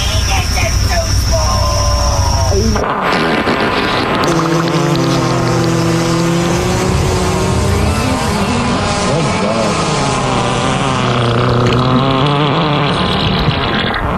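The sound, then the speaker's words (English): Loud, buzzy fart sound effects play one after another, their low pitch wobbling and sliding up and down over a dense, continuous rumbling background. “So can he get a, your penis is too small, so, followed by some random fart sounds.”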